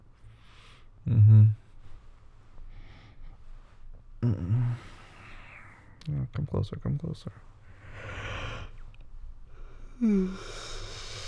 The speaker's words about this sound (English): You can't yawn like that, though. This is gonna make me yawn.